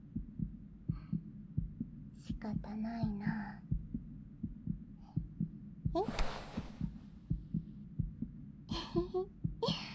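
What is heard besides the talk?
fast heartbeat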